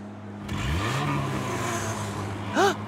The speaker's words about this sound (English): Did you hear that? It's a crowd cheering and monster trucks roaring! We made it to the monster truck rally!